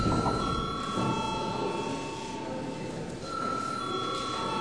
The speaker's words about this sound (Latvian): Tagad lūdzu zvanu.